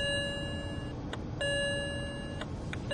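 A BMW's seatbelt warning chime, sounding because a seatbelt is not fastened while driving in Lower Saxony, rings over and over, bright sustained tones restarting every second or so over a low engine-like rumble, with no one speaking.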